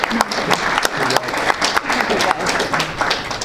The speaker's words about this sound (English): How about a round of applause for our school board? Thank you.